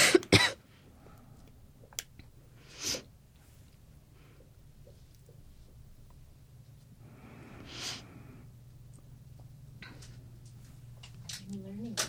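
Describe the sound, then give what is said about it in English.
A few short, throaty coughs and throat-clearing bursts from a person with a tickle in the throat, spaced several seconds apart over a steady low hum, with faint breathing in between. “Sorry, I'm just going to wait for the water so I can complete my thought without coughing through okay. it.”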